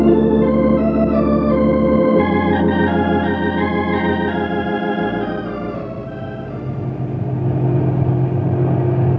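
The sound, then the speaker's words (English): A truck engine drones steadily as it drives down steep downgrades on the way back to a lumber camp, its low harmonic rumble shifting in pitch as the motor works up and eases off, loud and continuous with no voices. “I sure hope the brakes in this truck are okay.”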